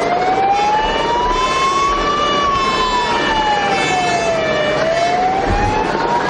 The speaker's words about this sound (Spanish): Sirenas de diferentes furgones policiales, 10 concretamente ahí en ese momento en el Paseo de Gracia, también ambulancias, bomberos, lo que escuchamos de fondo es el helicóptero de la Policía Nacional